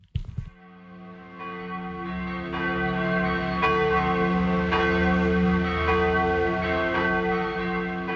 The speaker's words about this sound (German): Die mittelalterlichen Glocken der Kirche St. Georg klingen über den östlichen Zipfel der Insel Reichenau.